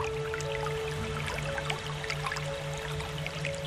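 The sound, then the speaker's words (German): A small glittering brook trickles steadily, with scattered drips and light splashes over a constant low hum, fairly quiet, with no voices. “Bald schon überquert ihr einen kleinen glitzernden Bach, dessen Wasser wie flüssige Edelsteine funkelt.”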